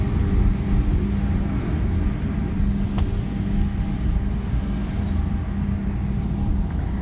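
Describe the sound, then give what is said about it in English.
A noisy council truck rumbles loudly outside, its deep engine drone holding steady throughout with a faint clank or two on top, and no one speaking. “Noisy council truck.”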